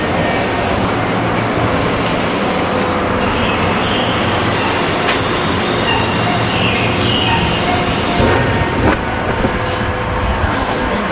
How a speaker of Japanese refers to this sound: 今京阪電車のこちらは大津京駅のホームです。今目の前に電車が入ってまいりました。708番、これに乗ります。